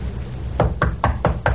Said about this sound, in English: Okay. Knock. Go ahead, knock.